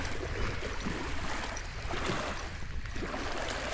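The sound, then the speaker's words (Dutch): Water of the Wadden Sea laps steadily against the shore, a continuous wash of splashing and gurgling with small surges, heard alone with no voices. “Naar de oever van de Waddenzee.”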